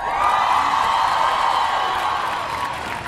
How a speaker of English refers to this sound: So again, give yourselves a cheer.